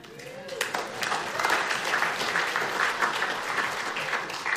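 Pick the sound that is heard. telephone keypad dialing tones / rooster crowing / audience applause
audience applause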